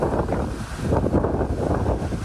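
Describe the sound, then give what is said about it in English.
Roaring wind of Hurricane Hillary, a Category 2 storm, buffets the microphone in steady, churning gusts in the tourist area of Cabo San Lucas on Mexico's Baja California Peninsula, with a broad low rumble of crashing surf underneath; loud and continuous, with no voices. “This is what it sounds like in the tourist area of Cabo San Lucas.”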